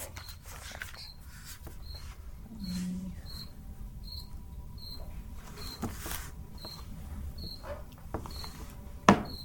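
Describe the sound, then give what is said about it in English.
A cricket chirps steadily during a meeting, short high-pitched blips repeating about once a second over a low, murmuring hum, with a brief sharp click near the end. “No, I think it's actually a cricket. It's an actual cricket.”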